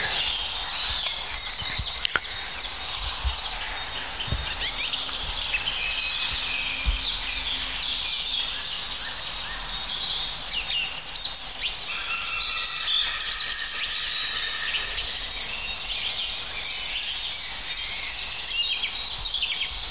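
A common blackbird sings fluty, warbling phrases outdoors, set against a dense, steady chorus of high chirps and trills from other birds or insects, with no talking.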